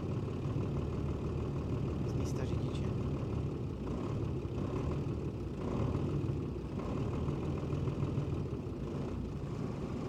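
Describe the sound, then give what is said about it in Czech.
A car engine running as the throttle is applied, recorded from the front with the engine on the left stereo microphone: a continuous low, rumbling drone with a couple of slight swells in intensity, steady throughout the ten seconds and with no voices. “A nalevo můžete slyšet, jak přidávám plyn.”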